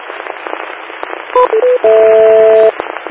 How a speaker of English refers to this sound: Trying to figure out why my radio was making the hissing sound. I just hit it with my radio mallet. That really means the knuckles of my right hand.